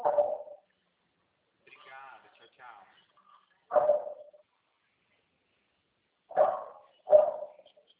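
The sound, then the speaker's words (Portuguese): A dog barks four times in short, sharp bursts, with long gaps between the first ones and a quick pair at the end, plus a brief softer whine or murmur in between. “Cachorro é essa, hein?”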